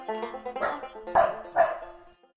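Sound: dogs barking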